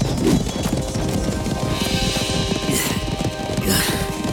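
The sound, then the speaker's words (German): Several horses carrying soldiers gallop away in retreat in a rapid, rumbling clatter of hooves, a dense continuous drumming that stays loud throughout with no voices. “Dann riss er das Pferd herum und stürmte mit den anderen davon.”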